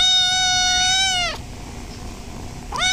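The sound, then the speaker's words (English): Cute, fluffy kittens meowing in a big glass box at an animal shelter in Homer: a long, high, sustained meow that falls off at the end, a brief pause, then another meow beginning. No talking. “The first thing you notice when you walk through the front door of the Homer Animal Shelter is a big glass box filled with cute, fluffy kittens.”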